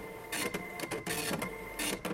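A slow printer runs in short mechanical bursts, its whirring feed starting and stopping several times in an uneven rhythm, fairly loud with no voices.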